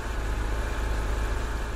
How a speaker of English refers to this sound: That's the sound of my car starting up, the jingling of the keys, pushing a button, sending a spark to the engine, setting off controlled explosions of gasoline, and then that low rumble of an internal combustion engine in idle.